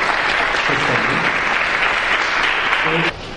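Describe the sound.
A crowd claps steadily in dense, even applause for about three seconds to thank a professor, then it drops off abruptly. A faint voice murmurs briefly underneath.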